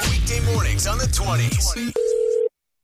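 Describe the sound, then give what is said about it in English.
Swooping, sliding electronic tones give way to a single short, loud burst of steady telephone ringing tone as a prank call connects, which cuts off abruptly into silence. “It's another phone tap.”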